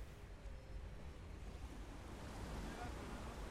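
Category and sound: nature, ocean waves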